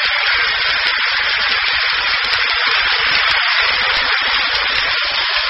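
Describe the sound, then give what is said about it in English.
A large stadium crowd applauds New York Giants pitcher Hal Schumacher as he moves up to bat against the Yankees at the start of the second inning, in a dense, unbroken wash of clapping that stays loud and even for about five seconds, with a hissy, narrow-band quality and no voices on top. “Getting a hand from the crowd. You can hear it in your radio.”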